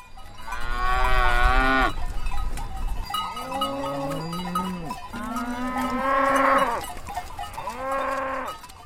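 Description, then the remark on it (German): Cows moo repeatedly on a Swiss alpine pasture, about four long, drawn-out calls, some rising and falling in pitch, with no one speaking. “Und dann geht's bei uns noch ganz steil nach oben, dahin, wo noch heute Sennen und Kühe zu Hause sind.”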